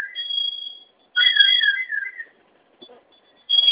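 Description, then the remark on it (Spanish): A fire alarm sounds with a steady, shrill high-pitched tone in long bursts, joined at times by a lower warbling tone. Two fire alarms are sounding; a code has been entered on the alarm panel and only one has stopped. It cuts out briefly, then resumes. No one speaks. “Se sonaron dos alarmas.”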